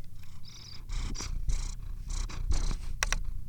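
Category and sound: animal, cat purring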